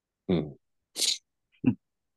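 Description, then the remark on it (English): A loud sneeze: a voiced gasping wind-up, a sharp hissing burst, then a brief trailing snort, all within about two seconds and with no talking. “God bless you, ….”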